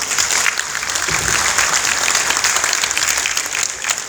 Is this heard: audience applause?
yes